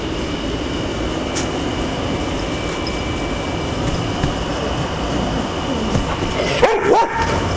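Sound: neighbor's dogs barking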